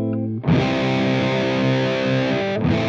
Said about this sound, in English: Another common type of distortion is clipping. This is when the signal gets boosted so much that the top of the waveform gets completely flattened.